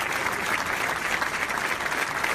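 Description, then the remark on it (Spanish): Steady, dense applause from the soldiers present at a guard of honour as Villiers leaves the Ministry of Defence, many hands clapping continuously at an even loudness throughout, with no voices standing out. “Villiers, pero este se le adelantó el miércoles, indicando en un comunicado que no podía llevar a cabo la misión que le había encomendado y dejó el Ministerio de Defensa en medio de una guardia de honor y un fuerte aplauso de los militares presentes.”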